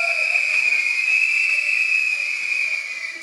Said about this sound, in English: How many people come from clitoral and vaginal stimulation? Can you blow your whistle?